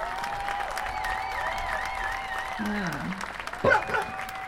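Steady applause from a crowd at a demonstration, for the veterans present, a dense, even patter of clapping that holds throughout, with sustained whistle-like tones above it and a brief louder burst of cheering near the end.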